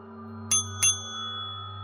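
A service call bell in an antique shop is struck twice in quick succession, two bright metallic dings, their ringing tone lingering briefly over a steady low background hum. No one speaks.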